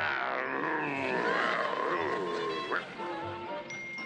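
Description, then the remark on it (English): A man growls and grumbles in a rough, guttural voice, a sustained rumbling noise with wavering, sliding pitch that carries on for several seconds with a brief dip near the end. “All he does is growl.”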